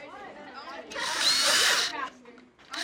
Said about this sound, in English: After students cut out their pieces, Roberts drills holes to connect them by wires.